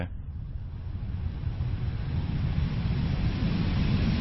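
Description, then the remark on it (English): The blower of a heated breathing device is switched on. It starts slowly and runs with a steady low rumble and airy rush, gradually growing louder over a few seconds. A single brief word is spoken at the start. “When you switch it on, it doesn't go full steam. It starts off slowly.”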